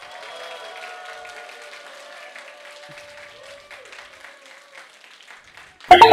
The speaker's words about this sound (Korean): 영상에 남아야 되니까 지금부터 성경 퀴즈를 시작합니다 하면 여러분들 1등하든 꼴등하든 환호를 끝까지 보내주시면 영상에 잠깐 담도록 하겠습니다.